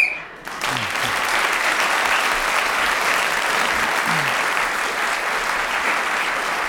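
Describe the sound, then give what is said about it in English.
A short, shrill whistle blast sounds at the very start, marking the end of a round in a game, quickly swallowed by a burst of loud, sustained applause from an audience that carries on to the end. “Clement Freud kept going until the whistle went”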